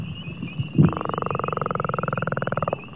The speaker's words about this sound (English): This is a northern leopard frog call.